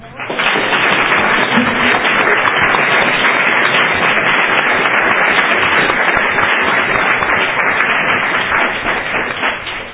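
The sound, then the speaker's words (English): Sustained applause from a crowd at a Cornell University meeting, given as a round of applause for the museum, a dense, loud wash of many hands clapping steadily for about ten seconds with no talking over it. “I think that we should give the museum a round of applause to thank them for their work this year.”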